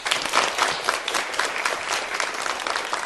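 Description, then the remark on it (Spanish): A class claps together to welcome a new classmate, a dense, steady patter of many hands that holds at an even volume for a few seconds without anyone speaking. “Hoy tenemos un nuevo compañero, lo cual es una alegría para todos. Y vamos a recibirle con un aplauso.”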